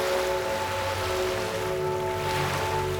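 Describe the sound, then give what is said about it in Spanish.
Soft, continuous wash of ocean surf with a steady hiss, layered with faint sustained tones in the background; no one speaks. “Siente la brisa marina acariciando tu piel y escucha el suave sonido de las olas.”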